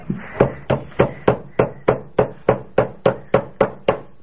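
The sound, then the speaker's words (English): A hammer strikes about fourteen times in a steady, quick rhythm, each blow a sharp, loud knock with a short ringing decay. No one speaks. “You need to use your hammer.”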